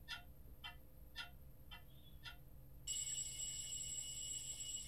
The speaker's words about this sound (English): Shut up! I quiet the alarm by slamming the switch on it like every morning and crawl out of bed.